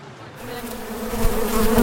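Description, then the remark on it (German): A bee buzzes steadily, its droning hum holding a continuous pitch and growing slightly louder over a couple of seconds, with no voices. “Hören Sie das? Es summt und brummt. Insekten wie diese Biene bilden das Fundament unseres Ökosystems.”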